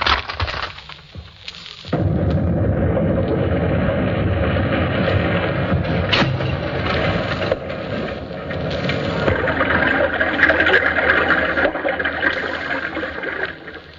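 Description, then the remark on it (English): A comic sound effect for opening a bottle of beer: fruit tills are smashed, an explosion record blasts while two panes of glass are crashed, then the explosion fades into a waterfall record's steady, loud rushing roar pouring on for several seconds, with a sharp crack partway through. “Then an explosion record played while two panes of glass were crashed. And then the explosion was faded down and a record of a waterfall was played.”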